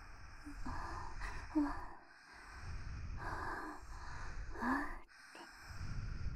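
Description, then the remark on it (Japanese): Heavy, breathy panting right up close, a steady cycle of noisy in-and-out breaths repeating every second or so with no talking, intimate and fairly loud as if at the ear. “聞こえますか、このいやらしい吐息。”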